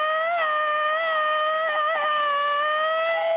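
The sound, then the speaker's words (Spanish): A woman lets out the famous 'machine-gun scream' (grito ametralladora) to close the El Genio Lucas show. It is a long, steady, high-pitched scream that holds one shrill pitch with slight wavers for over three seconds, loud and continuous, with no talking. “Y vamos a cerrar el programa el día de hoy con el famoso grito ametralladora”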